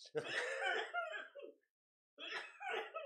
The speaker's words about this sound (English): Don't cough. Why you gonna blow it out? Well, you can blow it out. You just can't cough, bro. You fucked up.